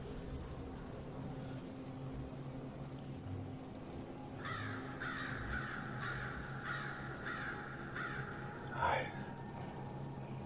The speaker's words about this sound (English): I thought I told you to shut up, dumb bird.